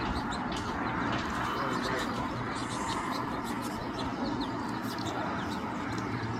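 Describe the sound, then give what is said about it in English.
Birds at a regular backyard bird feeder, including many small yellow birds, with a crow in the background: a busy, continuous mix of small chirps and tweets with some soft cooing, heard over a steady outdoor hum of wind. “But I just wanted to show you who's visiting my feeder.”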